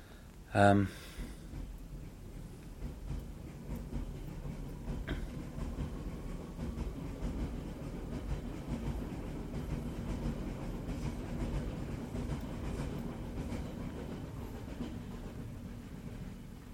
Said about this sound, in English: Okay, so there goes the train.